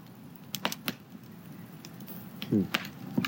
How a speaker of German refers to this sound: Und wir können jetzt gerade hier das Feuer genießen an diesem herrlichen Ort. Mal hier abwenden vom Feuer, zu heiß.